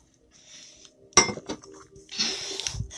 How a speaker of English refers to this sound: And I need to take a sip of my tea for a moment.